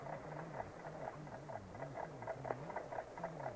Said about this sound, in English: That darn clock. Why do they always sound so loud in empty houses?